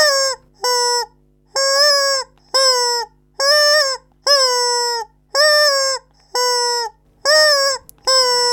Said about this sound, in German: Die charakteristischen Geräusche entstehen beim Gummihuhn durch eine spezielle Atemtechnik beim Ein- und Ausatmen.